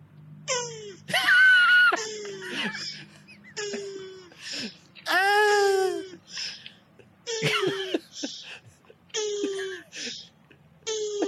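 A mating male Australian turtle gives a series of about eight squeaky, wheezing calls with short pauses between them. They are high-pitched, fairly loud and moan-like. The female makes no sound, and there is no talking.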